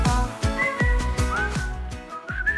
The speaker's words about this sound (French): Avec du sifflet, avec... de la cuivraille, comme on dit quand on joue du cuivre.